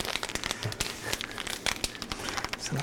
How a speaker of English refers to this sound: Step one, open the package.